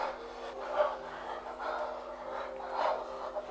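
Heavy, rhythmic panting breaths, several in a row, fairly quiet, with a faint steady hum underneath.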